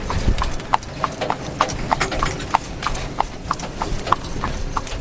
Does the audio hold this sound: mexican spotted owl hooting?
no